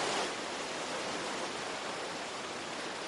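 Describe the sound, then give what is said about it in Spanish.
The Ebro river at Zaragoza, Spain, swollen and rising, rushes with great force in a dense, unbroken roar of churning water, loud, with no voices or pauses throughout. “Sonido del Ebro, que está bajando con muchísima fuerza y con cada vez más agua allí, a la altura de Zaragoza, donde la previsión es que el río alcance un caudal de 2.400 metros cúbicos por segundo y una altura superior a los 6 metros.”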